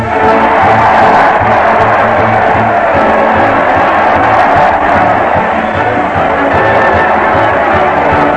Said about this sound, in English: Listen to that crowd. They're cheering Fred Allen as he leads his weekly parade to the old Town Hall.